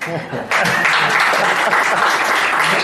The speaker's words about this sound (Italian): Io vi chiederei un applauso per voi.